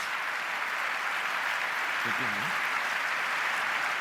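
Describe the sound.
An audience applauds the speakers at the end of a talk, steadily throughout, a dense, even wash of many hands clapping at constant loudness, with a brief faint voice-like murmur partway through.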